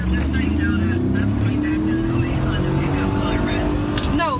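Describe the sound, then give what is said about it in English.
A blue Honda Civic's engine roars steadily at about 100 miles an hour during a car chase in Springfield, its drone rising slightly as it races along, with a voice talking over the continuous motor noise. “This is a blue Honda Civic, and they're doing 100 miles an hour right now.”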